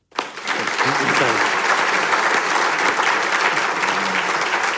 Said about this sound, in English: So can you join with me, please, in offering a vote of thanks and a round of applause on behalf of Griffith and Home of the Arts for the fabulous conversation to both Toby Walsh and Kerry O'Brien.